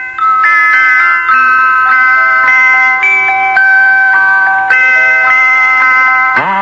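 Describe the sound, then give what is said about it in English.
Small bells set all around a cooking pot chime a simple, bright melody as the pot boils, note after note in a steady rhythm, loud, playing alone without any voices until the tune cuts off. “It had little bells all around it, and when the pot boiled, it played a little tune.”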